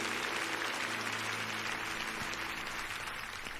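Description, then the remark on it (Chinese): A crowd applauds in praise, giving the greatest glory to him, steadily, a dense wash of many hands clapping at an even level for several seconds, with no voices standing out. “拍手，将最大的荣耀归给他。”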